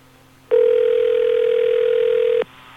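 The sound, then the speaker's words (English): A phone line rings out with one steady electronic ringback tone lasting about two seconds, heard clearly over faint background hum, with no one picking up or speaking, as a call is placed to a radio station. “I hate when DJs are cocky and don't answer the phone. Like we do all the time here because no one wants to produce.”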